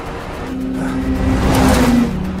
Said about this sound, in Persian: قربان یه ماشین جدید آمده است.